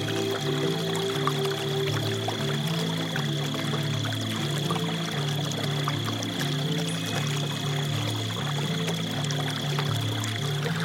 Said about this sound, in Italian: Una tenue condensa aleggia nella superficie. Il rumore lieve dell'acqua risuona delicato.